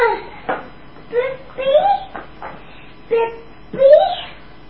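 puppy whimpering and yipping

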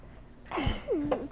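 sneeze

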